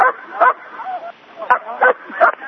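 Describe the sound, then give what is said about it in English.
A dog barks four times in short, uneven bursts, sounding muffled and thin as if coming over a phone line, with a faint murmur of voices in the background between barks. “Who has dogs?”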